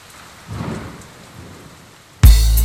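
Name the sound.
rain with thunder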